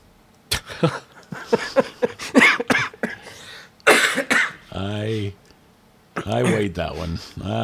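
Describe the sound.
A burst of loud coughing, several sharp hacks in quick irregular succession, followed by a couple of breathy voiced bursts that sound like laughter or a strained voice.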